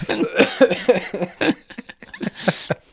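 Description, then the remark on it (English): A fit of coughing: a string of harsh, raspy coughs in uneven bursts, loud at first, then a few breathy hacks and one final sharp cough. “It's making me cough.”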